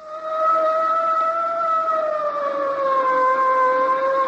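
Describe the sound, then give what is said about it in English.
A police boat's siren on the water off New York sounds loud, holding one continuous wailing tone that slowly sinks in pitch over several seconds, with no voices over it. “Suddenly from nowhere, an official boat. A police boat.”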